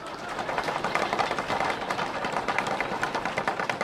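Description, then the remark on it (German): A steady drum roll before a prize draw at an evening event in Tübingen: rapid, continuous snare strokes blur into a rattling roar that holds at an even, fairly loud level for about four seconds, with no voices over it. “Trommelwirbel.”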